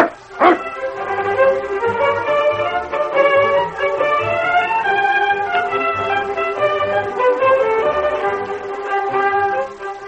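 The Sergeant's dog barks once, then keeps up an eager, continuous high-pitched whining and yipping that rises and falls in pitch for about ten seconds as a caribou steak is offered for it. The dog is loud and steady, with no one talking.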